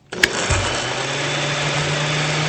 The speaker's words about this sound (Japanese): そして最後はスムージーなんですけども、ぶどうと冷凍ベリー、豆乳、クラッシュアイスを入れてミキサーにかけていきますよ。